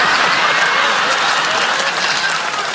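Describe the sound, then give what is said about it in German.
Steady, dense applause from a sizable crowd, many hands clapping at once in a continuous loud wash that fills the whole moment without pause. “Danke für den Applaus.”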